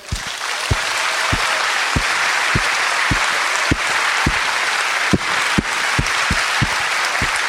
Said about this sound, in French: Alors, saluons le Seigneur avec un applaudissement.